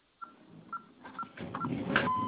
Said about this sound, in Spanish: Ya está. Y se escuchó el bip, ¿correcto?